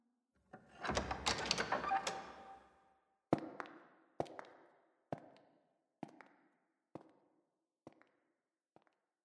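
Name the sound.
door being opened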